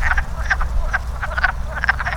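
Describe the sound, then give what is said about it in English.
A chorus of wood frogs calling, with short, clucking croaks repeating in quick, uneven bursts over a steady low rumble. “Wood frogs, like those you hear right now, have evolved the ability to freeze in the wintertime.”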